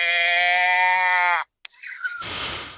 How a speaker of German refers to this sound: Da ist Kälbchen gekommen.